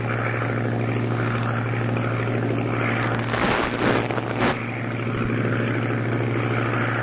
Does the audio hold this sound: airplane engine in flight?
yes